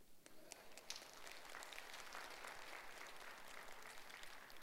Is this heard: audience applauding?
yes